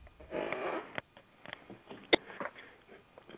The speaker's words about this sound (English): Excuse me, I had to cough.